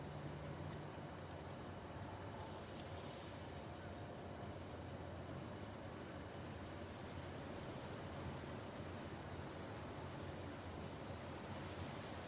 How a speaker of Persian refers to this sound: صدای دریا نمیاد. صدای دریا.